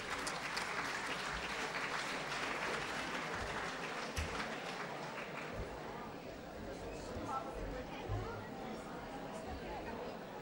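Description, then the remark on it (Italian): An audience applauds steadily for about ten seconds, a dense, even wash of many hands clapping at a consistent loudness, with faint murmuring voices underneath. “Fatogli un applauso, da, se lo merita.”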